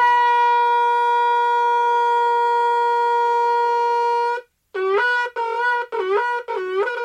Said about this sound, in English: The howling sound of the shofar causes us to tremble, to shake us up a little bit and bring us back to the state of the unblemished soul.